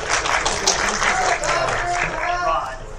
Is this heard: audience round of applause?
yes